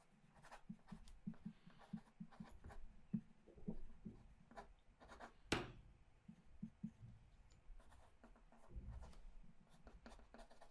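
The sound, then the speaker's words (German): Pens scratch and scribble on paper in quick, uneven strokes as quiz players write down their answer, with occasional taps and clicks, fairly quiet, continuing steadily with no talking. “Stifte bitte weg.”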